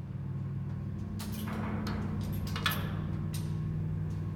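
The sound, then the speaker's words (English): After its door closes, a lift moves very slowly up toward the top floor, grinding with a steady low mechanical drone broken midway by several rattling clanks and scrapes before the hum carries on evenly. “The door closes and the lift continues moving. It's moving very slowly and making strange noises.”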